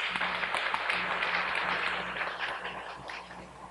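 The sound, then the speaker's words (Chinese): A church audience claps to welcome a visiting family, a dense, steady burst of many hands that holds an even, fairly loud level for the whole stretch with no voices standing out. “请再一次站起来，我们大家拍手欢迎他们。”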